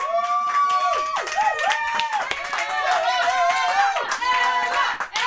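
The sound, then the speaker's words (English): A small group in a control room bursts into a round of applause, dense overlapping claps running steadily throughout, mixed with high whoops and cheering voices that rise and bend in pitch. “Can we just have a control room round of applause for that answer to that question, which is one of the best answers I've ever heard?”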